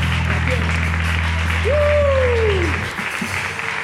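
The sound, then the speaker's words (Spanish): An audience applauds loudly and steadily for Jesus in worship, a dense wash of clapping, with a low electronic hum underneath and a brief rising-and-falling vocal whoop partway through. “este grande aplauso para ti, Jesús.”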